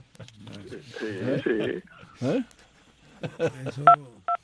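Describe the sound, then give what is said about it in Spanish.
A telephone rings with short electronic two-tone beeps near the end, brief and fairly clear, following stretches of people talking. “el teléfono está sonando, pero tú estás ahí con nosotros, ¿no?”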